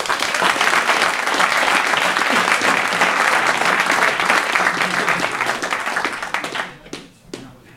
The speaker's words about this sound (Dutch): Dus vandaar deze benoeming. Dus nogmaals een groot applaus.